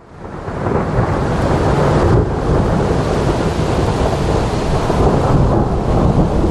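A loud, sustained roll of thunder from a lightning strike that swells in within the first half second and rumbles on steadily for several seconds, with a rain-like hiss mixed in and no voices.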